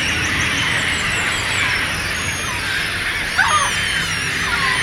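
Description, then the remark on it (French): A dense chorus of large and small gulls calling at a winter roost on a wide expanse of water about 80 cm deep, where up to more than a thousand birds gather every evening: many overlapping high squealing cries forming a steady wash, with one sharper call briefly rising above the rest near the end. “c'est un grand site d'hivernage pour les et de dortoir, hein, pour les goélands et les mouettes qui viennent ici par jusqu'à plus d'un millier d'individus, hein, se rejoignent tous les soirs ici sur cette grande plaine d'eau.”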